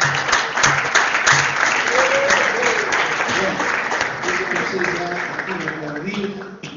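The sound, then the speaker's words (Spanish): Sustained audience applause for a woman who works in culture for Misiones province, a dense steady clatter of many hands clapping at an even loudness for several seconds, with faint voices and shouts mixed in underneath. “Para ella vamos a hacer un aplauso también”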